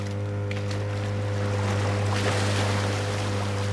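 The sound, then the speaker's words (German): A motorboat engine drones steadily with a deep, constant hum, while water rushes and splashes around the hull as the boat heads out onto the open sea. No one speaks. “Otto macht die Leinen los, Benjamin startet den Motor und dann fahren sie hinaus auf das offene Meer.”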